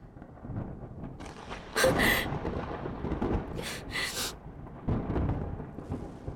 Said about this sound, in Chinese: 妈的，怎么回事？又打雷了！